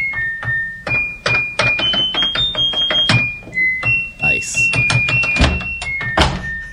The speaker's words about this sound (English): The slamming of the door. I love this.